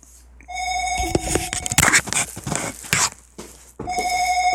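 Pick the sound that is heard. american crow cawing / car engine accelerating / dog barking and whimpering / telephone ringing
telephone ringing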